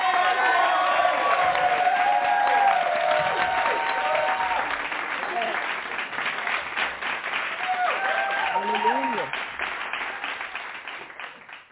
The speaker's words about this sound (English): we're going to welcome her with a hand clap praise. Amen.